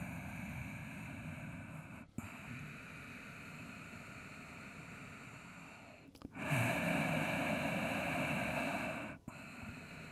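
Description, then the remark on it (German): Slow, deep, deliberately audible breathing of a person standing with feet together during a guided exercise, each long airy inhale and exhale drawn out with a hissing, throaty rasp; a few full cycles with brief pauses between, one breath noticeably louder. “hör dich atmen, atme mit Geräusch, etwas so.”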